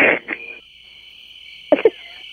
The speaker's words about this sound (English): Sounds like you're calling us from, like, the Pirates of the Caribbean with all those crickets in the background.